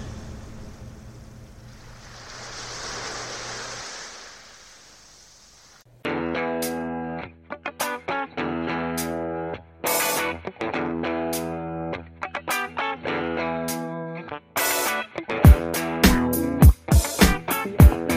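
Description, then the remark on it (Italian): A few seconds of surging sea-like rumble and wash, then loud, dramatic orchestral film soundtrack music for a film about an ocean liner and its impending tragedy bursts in, dense and sustained, punctuated by heavy percussive hits and sharp accents, with no talking. “Davvero da brivido questa musica, proprio adattissima al genere di film di cui stiamo parlando, fa proprio quasi capire la maestosità di questo transatlantico e poi l'imminente tragedia.”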